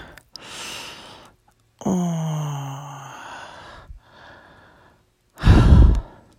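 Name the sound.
heavy breathing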